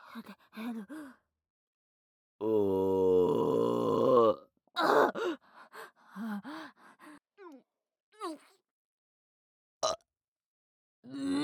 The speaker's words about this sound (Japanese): こっちに向いてくせえゲップすんじゃねえ。